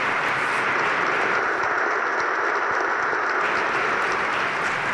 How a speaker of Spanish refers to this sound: Momento emotivo, escuchamos el aplauso de todos los presentes, todos los fieles, todos los sacerdotes.